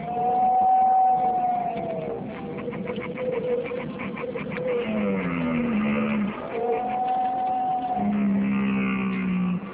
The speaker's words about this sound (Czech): To bylo? To byl jelen.